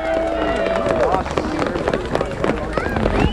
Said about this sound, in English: She is going to be signing in to get off the trail here, and you can hear the crowd really encouraging.